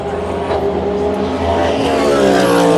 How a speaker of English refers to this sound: There's the other Ferrari. And another cab. Dirty, dirty, dirty cars. Genesis sounding mean.